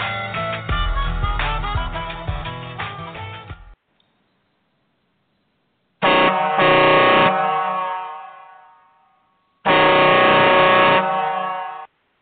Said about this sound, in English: There it is, Tyler. The air horn.